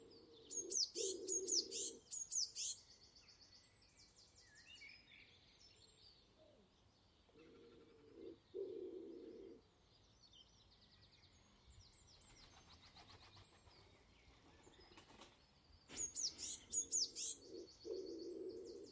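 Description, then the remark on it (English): A pigeon coos in low, soft phrases, three separate bouts, while small birds chirp and tweet brightly around it, with no voices. “I'll leave you with Mr. Pigeon.”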